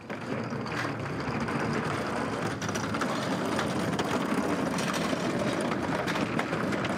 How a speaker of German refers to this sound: Ehrenamtliche schieben einen Rollwagen nach dem anderen vom Flugfeld aus in den Hangar, in dem früher Flugzeuge gewartet wurden. Säcke, Kisten, Kartons voller Legosteine, Bilderbücher, Strickpullover, Windeln.